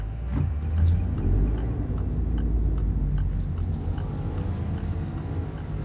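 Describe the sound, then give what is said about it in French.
A grey BMW 520d E39 station wagon, about twenty years old with 234,000 km, idles on its diesel engine, a steady low rumble with faint, regular ticking clicks over it, and no voices. “Mathéo, c'est votre voiture. C'est ça. Un gros break gris. C'est quoi comme modèle ? C'est une BMW 520D E39”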